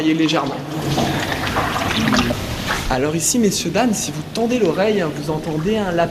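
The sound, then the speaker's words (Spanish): Rainwater drips and trickles steadily inside a cave as rain arrives from outside, while a man talks continuously over it, his voice louder than the patter of water. “Aquí, señoras y señores, si prestan atención, se puede escuchar la lluvia que llega y va a haber un cambio radical en el paisaje.”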